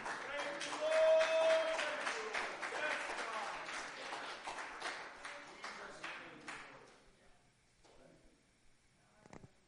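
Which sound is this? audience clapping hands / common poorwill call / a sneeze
audience clapping hands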